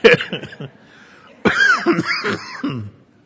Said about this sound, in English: I brought my own water, by the way, so if I keep coughing, which I don't know, it must be this dry room, because I don't cough this much in life generally.